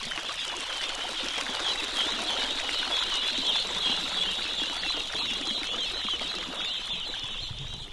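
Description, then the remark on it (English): About 60 ducklings hop and tumble out of bins into the water at the edge of a rice paddy, swimming for the first time, with a dense, constant chorus of high peeping and fluttering scrambling, steady and fairly loud throughout, no voices. “The ducklings hop and tumble out of the bins at the edge of the rice paddy.”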